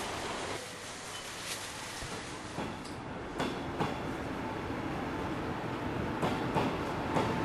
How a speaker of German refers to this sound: Das ist halt der Bahnhof. Ist das gruselig hier? Ja, es geht eigentlich. Normalerweise stehen mehrere Leute da. Ich meine, ich gehe auch nicht freiwillig unbedingt um 11 oder so noch hierher und durch den Tunnelbahnhof, aber es geht schon.